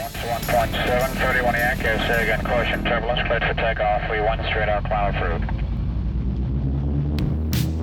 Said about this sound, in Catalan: Encenem motors.